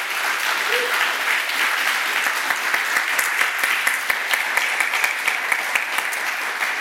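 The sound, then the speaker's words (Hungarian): An audience in Székesfehérvár applauds the guest singer at the end of a live broadcast tour stop, a dense, even wash of many hands clapping with a few sharper individual claps standing out toward the end, sustained at full strength throughout. “Egy nagy tapsot szeretnék kérni a ….”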